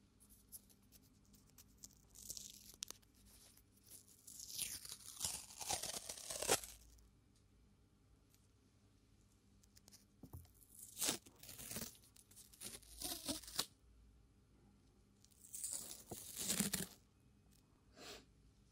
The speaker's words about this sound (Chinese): 这个胶带是以前就是学画画的时候，然后经常会用到的胶带，就粘在画板四周，这样的。来听一下这胶带的触发音。